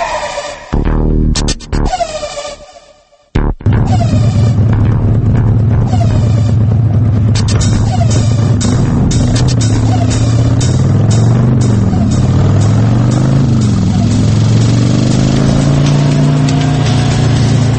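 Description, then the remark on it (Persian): A motorcycle engine runs loud, revving and throttling in uneven bursts with a brief cutout near the start, then a steady rumbling idle that rises and falls. “و اما موتور سیکلت.”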